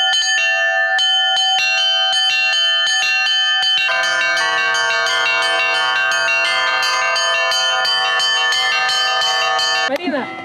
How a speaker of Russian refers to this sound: А обучение колокольному звону под четким руководством и бдительным наблюдением архиепископа Ионы настолько пришлось молодежи по душе, что колокол на фестивале звучал ежедневно до самого вечера.